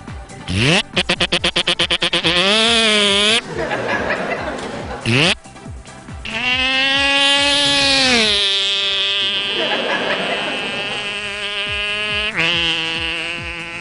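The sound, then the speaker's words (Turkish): A Yamaha 115 motorcycle's small engine buzzes loudly as it passes on a motorway, its whine climbing in pitch, dropping briefly at gear changes, then holding a steady high drone. “Otobandan geçişiydi bu.”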